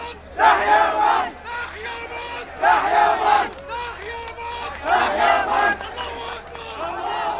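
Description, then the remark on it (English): A jubilant crowd of Egyptian Americans in an impromptu street parade celebrating Hosni Mubarak's departure, blocking traffic on Steinway Street in Little Egypt, Queens, cheers and chants in loud, rhythmic surges, roughly three big swells of shouting voices with brief dips between, over a steady low hum. “Jubilant demonstrators blocked traffic on a stretch of Steinway Street in Queens known as Little Egypt.”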